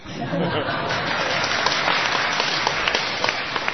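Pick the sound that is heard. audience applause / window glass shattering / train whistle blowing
audience applause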